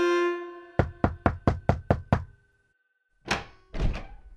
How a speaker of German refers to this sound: Da klopft es abends an der Tür. Wer steht denn heute wohl vor ihr?